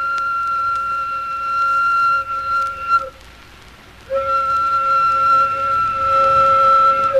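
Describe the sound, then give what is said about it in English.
A steam sawmill whistle gives two long, steady blasts with a brief pause between, a loud, sustained chord-like tone with no voices present. “That's the whistle at the sawmill.”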